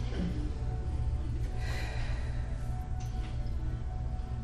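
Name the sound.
deep conscious breathing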